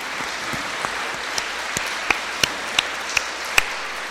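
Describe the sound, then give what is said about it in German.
An audience applauds the Pope, who is from Germany, in a steady, dense wash of clapping, with a few sharper individual claps standing out at irregular moments. Nobody speaks over it. “So let us give a clap for him now.”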